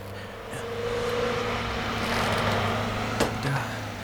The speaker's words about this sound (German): Achtung, Onkel Quentin. Hinter uns kommt ein Auto. Schalte das Licht aus.